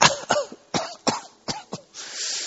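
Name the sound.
coughing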